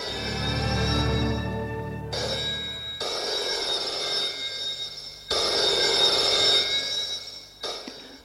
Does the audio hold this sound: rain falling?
no